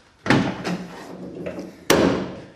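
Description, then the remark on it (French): The two heavy metal rear swing doors of a C15 van with a flatbed clunk open with a series of sharp latching thuds and rattles, a loud bang at the start and another near the end, with no talking. “Parce qu'il est commode d'accès, déjà, sur l'arrière, avec un plateau, avec 2 portes battantes.”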